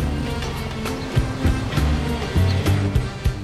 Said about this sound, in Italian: Le onde del mar Mediterraneo si rompono sulle rocce.